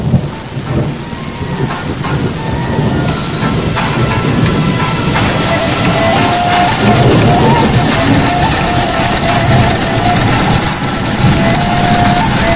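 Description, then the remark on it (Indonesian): Several sewing machines run at once during a night shift, a dense, steady mechanical whir and clatter that stays loud throughout without pause. “Musik berirama Sunda terpasang hampir seirama dengan suara mesin jahit yang bersahutan.”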